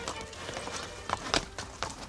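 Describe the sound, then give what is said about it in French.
Hooves of horses ridden by two people clip-clop in a steady, slightly uneven rhythm of sharp knocks, fairly quiet, with a few louder strikes partway through and no voices. “Les voilà tous les deux à cheval.”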